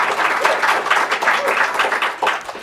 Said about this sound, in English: Clap.